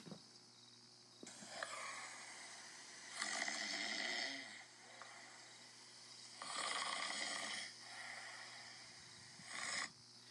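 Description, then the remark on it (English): Men snoring in their sleep, with three broad, rasping breaths rising and falling at a slow, steady pace over a low, constant hum. Fairly quiet, with no talking. “The sound of snoring men filled the tent.”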